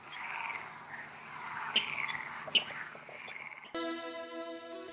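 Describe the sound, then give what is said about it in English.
A water rail calls with a continuous, rough, grunting squeal with a couple of sharp clicks, then a brighter, sustained musical tone abruptly takes over for the last second. “I això és un rascló.”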